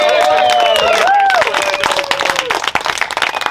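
A crowd claps steadily, a dense patter of many hands, with whoops and cheers rising over it at first before the applause continues on its own.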